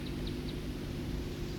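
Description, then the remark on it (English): Three faint, brief high-pitched buzzy flight calls from a small songbird in quick succession, set against a steady low rumbling background noise. “That was the flight call of the second songster.”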